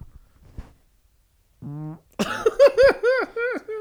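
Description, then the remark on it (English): A short, low buzzy fart rips out after a few faint rustles, then excited voices break into whooping, laughing yelps. “And then, yeah, I don't want to try to do this fart.”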